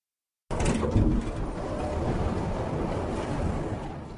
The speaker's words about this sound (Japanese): あなたは上へ向かうエレベーターを呼び寄せました。目の前の扉がゆっくりと開く。